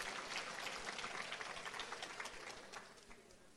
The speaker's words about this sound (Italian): Grazie. L'unica volta che mi piglio un applauso è quando aver palesato che non ho un filo del discorso.